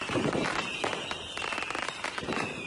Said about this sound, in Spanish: Vamos a escuchar a Pirotecnia Saraiva. Hombre. En los fuegos artificiales de 2015.